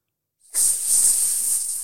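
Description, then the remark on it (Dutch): After a brief silence, a person imitates the hiss of a king cobra with a long, steady, loud hissing sound, held without a break to the end. No words are spoken. “Heel veel slangen die kunnen sissen of hissen noemen we dat eigenlijk.”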